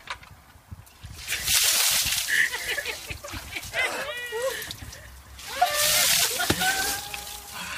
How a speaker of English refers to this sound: And I'm then always someone else chucks a bucket around you of freezing cold water. Then you stand up and you put the bucket you've been put your feet in over your own head.